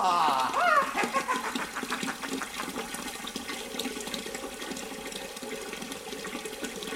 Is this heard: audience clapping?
no